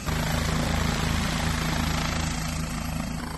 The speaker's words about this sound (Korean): 자, 이제 헬리콥터가 이륙하기 위해서 준비를 하고 있습니다. 사람들은 사진기를 들고 헬리콥터 주변에 모여 있는데요. 경찰 헬리콥터이기 때문에 더 기대감을 가지고 헬리콥터의 이륙 모습을 지켜보고 있습니다. 자, 이제 헬리콥터가 드디어 이륙을 하나요?